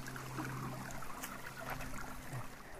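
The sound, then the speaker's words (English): A stream at Green Hill, north of Stanley in the Upper Nashwaak watershed, runs steadily, its water rushing and gurgling in a continuous, even wash with a faint low hum underneath and no voices. “I love the sound of running water.”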